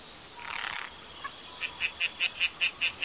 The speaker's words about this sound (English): Wow, you're a happy little fella, ain't you? I have an idea. Why don't I take him far from here? 2 beaches away. Maybe I'll find a Mrs. Tree Frog. That way it won't keep you up anymore and everyone's happy.